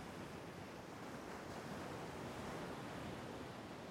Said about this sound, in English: The sound of the water and the feel of the sand on my feet brings me back down to earth and, well, when things feel like they've been tossed up in the air.